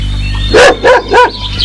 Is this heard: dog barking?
yes